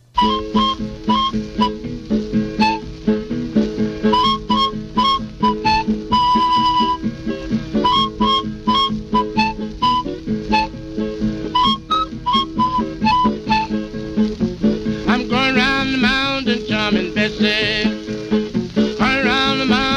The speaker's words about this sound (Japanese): まずそのブルースの弾き語りと、 はい、 このクイルという、 ね、 笛の音色、はい、 音色 ちょっと聞いていただきたいと思います、 はい、